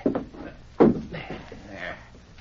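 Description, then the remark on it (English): A chair is kicked over, giving one heavy wooden thud and clatter partway through, followed by softer scraping and rustling as things settle. “Kick that chair over while I scuff up the rug.”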